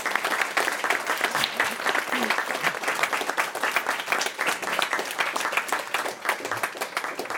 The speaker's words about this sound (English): Let's give them a big applause for all of our speakers.